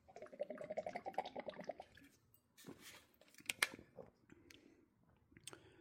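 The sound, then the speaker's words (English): Quiet, rhythmic gulping of someone chugging water from a bottle that tracks water intake, in quick succession, followed by a few sharp plastic clicks and rustles like the bottle cap being handled. “So let's say I'm gonna open it, really nice chug.”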